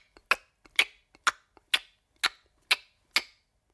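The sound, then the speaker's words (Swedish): A steady run of sharp clattering taps, the footsteps of a walking clock some way off, each strong click preceded by a faint softer one, falling in an even tick-tock rhythm about twice a second. No voices. “Ja, det var ett litet slags klapprande ljud som också lät lite grann som en klocka.”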